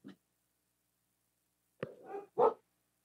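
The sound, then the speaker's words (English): A dog gives a brief soft bark, falls quiet for over a second, then lets out two more barks in quick succession, the last one the loudest and fullest. “I just got to check my dog.”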